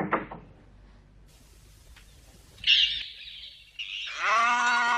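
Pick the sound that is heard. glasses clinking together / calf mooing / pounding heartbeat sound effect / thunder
calf mooing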